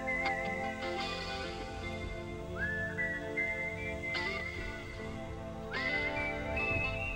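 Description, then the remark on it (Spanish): A clear whistled melody opening a 1990s rock ballad rises and glides over a steady band backing, the tune repeating in short phrases at an unhurried ballad pace, prominent. “Ese silbidito al inicio de la canción es muy representativa.”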